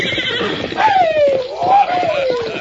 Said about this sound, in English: All right, horse, you try to get me off. Get rid of him, Silver.